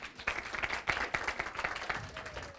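A small audience claps steadily, a dense patter of many overlapping hand claps sustained for a few seconds at moderate loudness, with no one speaking.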